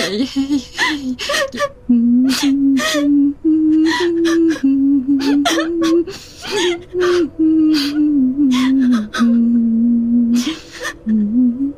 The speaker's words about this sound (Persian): گریه نکن دختر